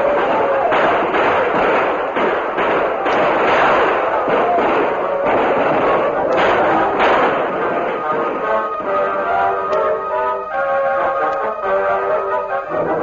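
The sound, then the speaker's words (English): In a Lone Ranger radio drama, loud, rapid bursts of gunfire and heavy thuds crowd the first half as Tom Fuller and about 30 men gallop into a village with guns firing, with hoofbeat-like pounding mixed in, before a swelling musical score takes over toward the end. “Tom Fuller, leading about 30 men, galloped into the village with guns barking.”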